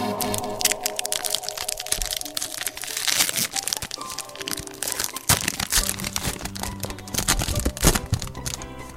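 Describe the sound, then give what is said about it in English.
A trading card pack, one of eight, is torn open and handled, giving dense, continuous crinkling and crackling of foil wrapper with sharp tearing snaps, over a soft, steady tonal music bed. “Yeah, I have 8 packs of cards here, so I believe I shall open one.”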